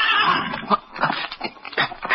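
A horse named Victor gives a sharp, shaky warning whinny at night under a full moon, its quavering call rising and falling in quick pulses for about two seconds, loud, with no one speaking.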